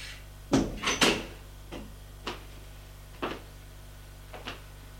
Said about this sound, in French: Il a refermé la porte derrière lui.